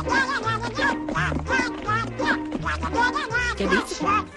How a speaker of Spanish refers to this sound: Vamos a ver si el productor tiene ahí Pato Donald. Ay, qué lindo.